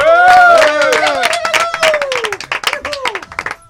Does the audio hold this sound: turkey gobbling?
no